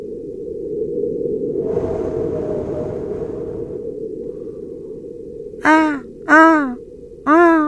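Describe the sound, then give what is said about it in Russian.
Recorded wind on Mars: a steady low, rushing roar that swells slightly midway, followed by three loud, harmonic, rising-and-falling bird-like calls at the end. “Ветер.”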